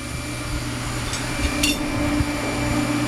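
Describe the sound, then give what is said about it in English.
A steel bar is grabbed quickly to be heated and hammered, with a faint clink and then one sharper metallic clank, both brief, over a steady droning machine hum; no one speaks. “I'm gonna grab a bar of steel really fast.”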